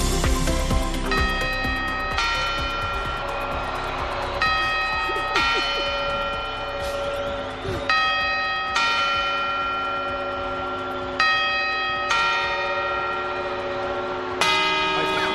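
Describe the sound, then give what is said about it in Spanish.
The bells of the Puerta del Sol clock in Madrid ring out a series of resonant quarter chimes, each strike blooming with long overtones and overlapping decay, spaced roughly a second or two apart in a steady, stately sequence with no talking. “Primero serán los cuatro cuartos y después las 12 campanadas. Así sonará el reloj de la Puerta del Sol mañana a medianoche y con este soniquete.”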